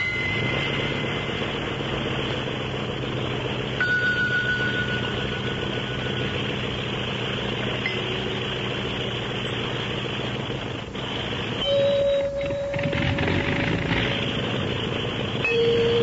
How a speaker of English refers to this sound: When you hit that other note, I thought the motor of the plane started acting up. There was a change in the sound of the plane.